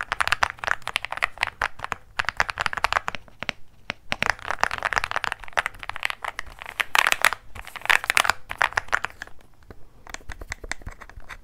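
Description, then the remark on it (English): Rapid, crisp keystrokes clatter on a classic keyboard, typed in dense bursts with a few short pauses, steady and fairly loud with no voices. “Of course, I like this one the best, but you can't go wrong with a classic keyboard.”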